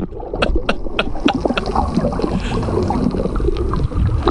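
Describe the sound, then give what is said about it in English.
Boats on water, including the aluminum boat Pride of Maui: a steady, fairly loud wash of churning, sloshing water with scattered knocks and splashes, continuing throughout with no voices. “Now, those are boats. Those do float.”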